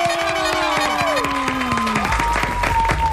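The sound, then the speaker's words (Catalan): A live radio-show audience breaks into applause for a presenter, a dense wash of many hands clapping at once, steady and moderately loud, with a few cheers mixed in and music-like tones running underneath. “t'han aplaudit no tots, eh?”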